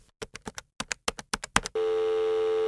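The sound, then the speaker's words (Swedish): A quick run of about a dozen close, crisp taps, like digits being dialed, then a steady, loud telephone ringing tone that holds on without a break until the end. “Vi ringer.”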